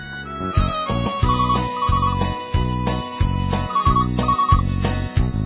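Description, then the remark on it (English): An instrumental song intro plays at full volume, with a steady pulsing bass beat and bright, ringtone-like beeping synth notes repeating over the top, no singing yet. “Till then, another song about phones.”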